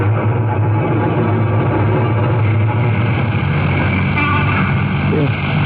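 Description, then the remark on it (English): A truck engine rumbles steadily and loudly, a deep continuous drone that holds at the same level throughout. “Let's shut this truck up and get moving.”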